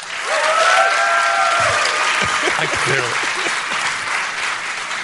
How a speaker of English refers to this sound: Muted applause, muted applause. Polite applause, yeah.